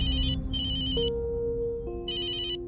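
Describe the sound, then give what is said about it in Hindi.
A phone ringtone plays in repeating bursts of bright electronic tones, with a steady lower melodic tone running beneath. It rings clearly with no talking; the phone keeps ringing and no one picks it up. “माँ, फोन उठाने दो।”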